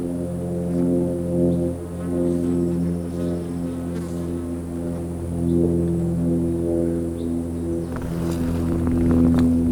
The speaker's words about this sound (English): Yeah. Stupid airplane.